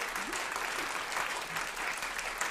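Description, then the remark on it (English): An audience of New Yorkers from many immigrant communities and the tri-state region claps steadily in sustained applause, a dense, even wash of many hands without pause, with faint voices mixed in underneath. “And applaud for yourselves, an audience of New Yorkers from many immigrant communities and elsewhere around the tri-state region.”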